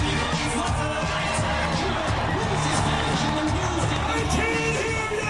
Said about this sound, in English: Oh, Lord. I mean, it's clear somebody knows who he is, right? The crowd. Or at least they're just fired up, right? This is at a fan fest.